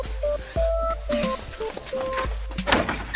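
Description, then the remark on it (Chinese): A door is opened with a few dull thumps and creaky, scraping tones spread over about three seconds, ending in a brief rattling burst. No one speaks. “你总算肯开门了，我开门是为了做生意呀。”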